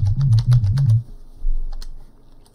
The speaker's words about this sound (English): So then you can start to play notes. And actually you have, you know, the letters for each note. So if I press B or M or J, M, you can play with your keyboard.